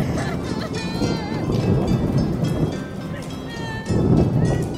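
Deep thunder rumbles steadily through a stormy wash of rain and wind while mourners pray on the way to a cemetery, swelling into a louder roll near the end, with faint voices murmuring in the background.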